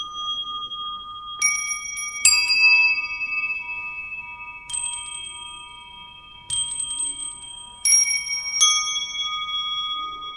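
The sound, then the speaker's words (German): A glockenspiel, an instrument object in an art installation in Mannheim played by musicians, rings out with a handful of single struck notes at an unhurried, irregular pace, each bright metallic tone lingering and overlapping the next. Clear, with no voices. “Glockenspiel zum Beispiel.”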